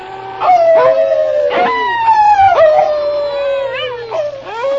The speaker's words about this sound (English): All right, King. Start howling like a wolf.